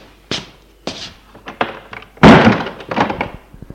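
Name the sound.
door being closed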